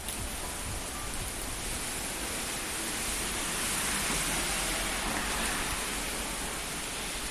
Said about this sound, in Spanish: Ha vuelto la lluvia con fuerza, con aviso amarillo en la provincia por acumulaciones de agua importantes, 15 litros en una hora, 60 en 12 horas,